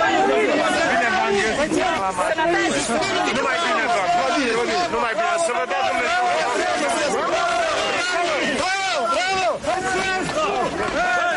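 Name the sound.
crowd chanting slogans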